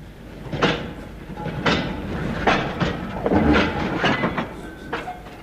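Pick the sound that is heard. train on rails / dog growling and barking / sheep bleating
train on rails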